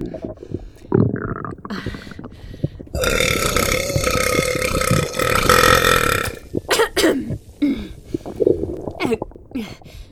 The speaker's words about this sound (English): I didn't even mean to burp that one out.